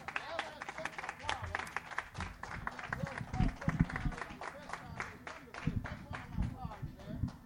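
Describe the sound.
An audience applauds a shape note singing performance with steady, dense clapping that holds for several seconds at a moderate level, with voices murmuring and talking underneath.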